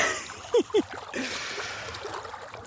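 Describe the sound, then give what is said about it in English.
Water sloshes and splashes steadily as someone wades into the River Dee on a hot, sunny day, the water reaching their knees. Two brief voiced sounds, like short gasps, come early, over a continuous swishing wash of disturbed water. “And the further in I go, the darker the water appears.”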